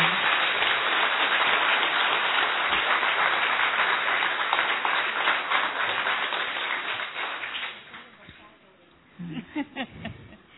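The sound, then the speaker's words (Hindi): A crowd in a meditation hall claps loudly and steadily, a dense wash of many hands that keeps up for about eight seconds before thinning out, followed by a woman starting to speak. “खूब अच्छे से ताली बजाओ, खूब अच्छे से।”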